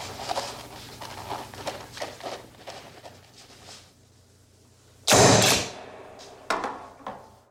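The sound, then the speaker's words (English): A rubber stamp slams down on Red's parole application form, stamping it approved, with a loud thump, then a lighter second hit follows, after a stretch of soft rustling and shuffling. “Of course, that sound at the end is Red's parole application getting stamped approved.”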